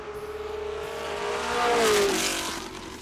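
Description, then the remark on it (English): A powerful restored car engine roars at high revs, its pitch climbing and then dropping as it shifts, loud with a rising rush of wind noise, no voices. “Wow, this has got to be the ultimate ride if you want to go close to 200 miles an hour.”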